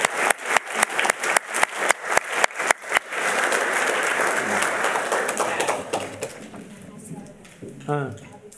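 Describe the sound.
A church audience applauds the children: a few sharp, evenly spaced claps swell into a dense, sustained round of clapping from a large group. It tapers off before a voice briefly speaks at the end.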